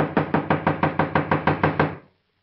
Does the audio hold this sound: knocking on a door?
yes